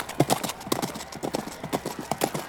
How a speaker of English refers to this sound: Looks like the horses are doing pretty well so far. But we are pretty close to the beginning of the marathon. How will the horses hold up after some long-distance running?